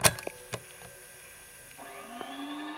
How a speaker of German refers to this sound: Mann, Staubsauger? Richtig, erster Punkt für Xavi.